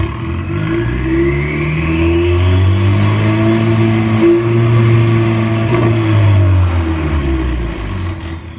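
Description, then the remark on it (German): A car engine is revved hard to maximum during a police check, with an officer watching the tachometer: a loud, steady roaring whine that climbs, sustains for several seconds, then drops away at the end. “Der Polizist schaut natürlich vorne auf den Drehzahlmesser.”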